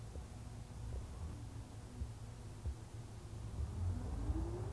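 A Japanese bus engine rumbles low and steady, then rises in pitch as the bus departs the Ikuei stop and accelerates toward Akagawa 3-chome, heard from inside with a constant wash of road noise and no voices.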